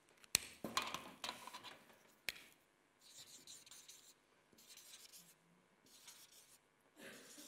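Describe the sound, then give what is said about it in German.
Pen or marker strokes scratch and rub across paper in a series of short, uneven bursts, with a couple of sharp taps in between and brief pauses between strokes, while drawing a picture of the Creation with the Holy Spirit over the earth, trees and water. “Und da möchte ich jetzt ein bisschen malen dazu, um das zu verdeutlichen.”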